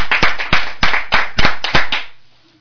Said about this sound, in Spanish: Desde aquí, un aplauso para todos vosotros.